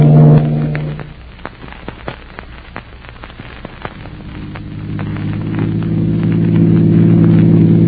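A steady, low engine drone from a moving car fades briefly, while a scatter of sharp cracks and pops comes through, then the motor hum swells back and grows louder toward the end.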